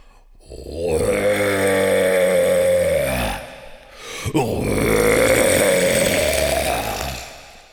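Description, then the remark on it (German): A human voice imitates a red deer stag's roar: two long, rough, guttural bellows, each lasting about three seconds, loud and throaty with a slowly rising pitch, separated by a brief pause. “Ich bin …, der röhrende Hirsch, und ich werde jetzt röhren.”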